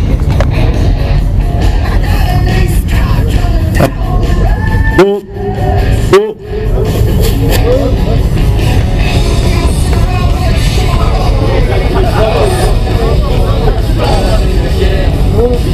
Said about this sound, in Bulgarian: Вие слушате запис от протест на българското мото общественост от 13 април.